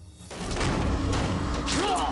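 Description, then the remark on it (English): A door bangs open suddenly and loudly as a man leaps out from behind it, followed by a heavy, muffled thud as he stabs another man amid scuffling noise, with a brief strained vocal cry near the end. “Damon leaps out from behind a door and stabs him.”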